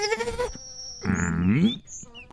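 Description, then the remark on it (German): Buzzing dragonfly wings, rendered as two loud bursts of a reedy, nasal drone, the second rising in pitch, with faint high whistling tones between and after. “Libelle.”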